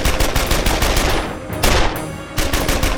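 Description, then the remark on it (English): Twin USMG 73 heavy machine guns fire from the armored turret of a Sandcat vehicle at a creature, a loud, continuous stream of rapid shots, briefly easing before surging again, with no voices present. “Domi turned the twin USMG 73 heavy machine guns and began firing a continuous hail of bullets at the coal-skinned creature.”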